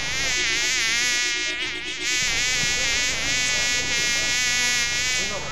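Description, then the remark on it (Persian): A housefly buzzes loudly at a garbage bin, a steady, droning whine that wavers slightly in pitch and never stops for the full few seconds, with no voices. “نام من مگس است. من بچه گو مگس نواسه خرمگس هستم.”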